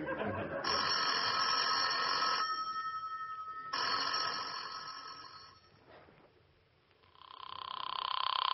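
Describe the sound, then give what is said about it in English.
A telephone bell rings loudly in repeated bursts, two long rings separated by a short pause, then a third ring starting, with no one talking. “It's ringing”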